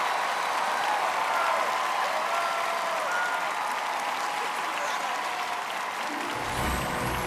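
Sustained applause from a crowd, a dense steady clatter of many hands clapping at an even loudness for several seconds, with a low rumble rising near the end.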